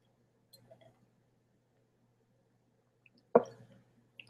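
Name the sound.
sipping water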